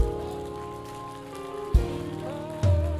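An audience claps for the Lord steadily in a dense, continuous patter, with sustained keyboard chords underneath and a couple of sudden low thumps toward the end.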